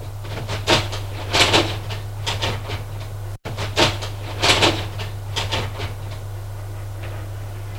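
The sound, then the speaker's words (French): A kitchen cupboard door is opened and shut as someone takes things from his own shelf inside, with a short series of wooden knocks and rattles over a steady low electrical hum; the handling sounds come in two similar bursts. “Là, il prend dans le placard le rayon qui est à lui, où il y a des BM et du chocolat rien que pour lui.”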